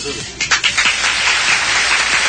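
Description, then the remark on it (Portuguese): A short burst of applause: a few separate claps at first, then quickly filling into a dense, steady patter of many hands that holds at fairly loud volume. “Aplausos.”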